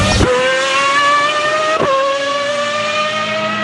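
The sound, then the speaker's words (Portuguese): A historic race car engine screams loudly at the Classic Days motorsport event in the centre of France, its high whine climbing steadily in pitch, broken by two quick gear changes early and midway through. “Mas é um evento parecido com Goodwood na Inglaterra. Carros históricos, pessoal apaixonado por automobilismo.”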